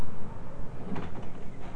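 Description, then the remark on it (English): A child pushes on a front door, rattling and thudding softly in a few uneven bumps, with a faint creak in the middle and no talking. “Now you're pushing on it.”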